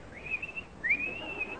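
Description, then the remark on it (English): A person whistles an imitation of a lark's song: two sustained, gently wavering high tones, the second starting with a quick upward slide, clear with no talking. “And as we reach the wood, we hear the song of the lark.”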